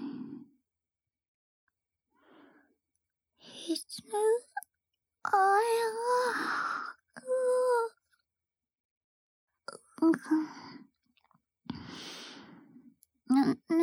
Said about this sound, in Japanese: 眠くない。眠くないよ。これは、その、ちょっとあくびしただけで。